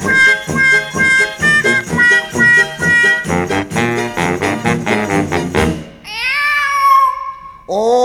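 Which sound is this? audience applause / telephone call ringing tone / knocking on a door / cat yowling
cat yowling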